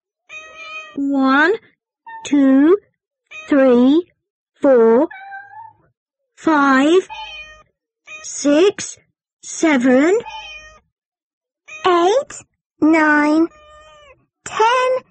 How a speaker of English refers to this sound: And the other cats?The cats! Where? On the bed.